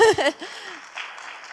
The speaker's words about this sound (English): Okay, can I just, let's give them a clap.